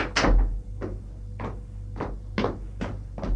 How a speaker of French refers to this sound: Dans le couloir, il ouvre la porte et entre dans la chambre.